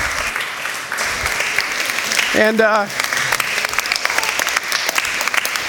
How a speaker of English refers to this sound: If you could just keep clapping, that would be great.